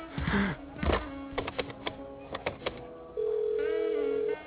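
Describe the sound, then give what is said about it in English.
A phone is picked up and a series of short button tones are punched in quick succession, followed by a steady dial-type tone, all fairly clear with no talking. “Hey, would you mind if I made a phone call, please?”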